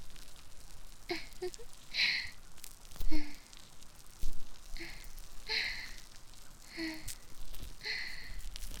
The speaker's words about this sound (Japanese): 耳たぶまで どう？気持ちいいでしょ？耳元でパチパチ泡が弾ける音。